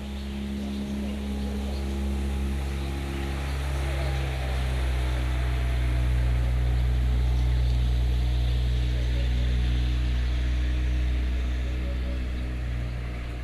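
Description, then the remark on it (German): A boat engine drones steadily throughout, a low, continuous hum with a constant rumbling pitch, unchanging, with faint wind and water hiss in the background. “Motor abgeschalten.”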